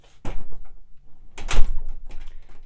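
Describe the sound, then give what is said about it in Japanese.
A shop door is opened for a customer with a few rattling, clattering knocks, a sharp louder clack in the middle, then a lingering low rumble and scrape as it swings. No one speaks. “今開けますから。”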